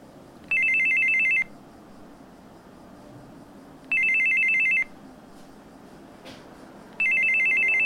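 A telephone rings in three evenly spaced bursts of a bright, warbling electronic tone, each lasting about a second, with quiet noise in between and no talking; the call comes from a scammer impersonating the mother's son.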